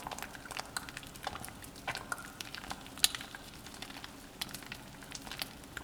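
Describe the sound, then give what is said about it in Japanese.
Soap foam being lathered in the hands fizzes and crackles softly and continuously, with tiny irregular pops and squishy bubbling throughout, fairly quiet and steady, with no talking. “泡の音を聞いているだけでふわふわに包まれてるみたいでしょ。”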